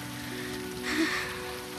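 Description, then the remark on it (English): Steady rain from a storm patters on a hard surface, a continuous hiss of drops with no pauses, holding at a moderate level throughout and swelling slightly midway. “Look, would a liar chase you down in the rain?”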